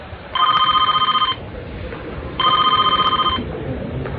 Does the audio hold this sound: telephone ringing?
yes